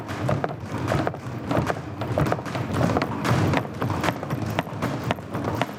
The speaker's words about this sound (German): Betritt man den Raum und lauscht aus einiger Entfernung, nimmt man das Klanggemisch wahr, die Verbindung aus allen Einzelklängen. Tritt man näher und geht auf einen einzelnen Schuh zu, treten seine Schritte hervor und übertönen die anderen.